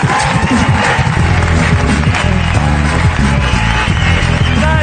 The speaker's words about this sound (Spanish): Un aplauso para Sergio Ballín en la Resistencia.